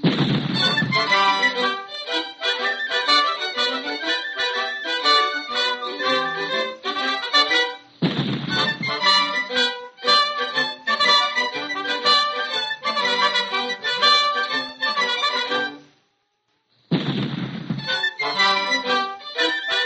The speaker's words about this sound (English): Pop Goes the Weasel does seem the logical song to need 6-pound cannons for its bass